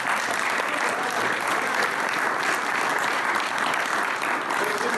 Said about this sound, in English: and before I leave, let's all give minor details a round of applause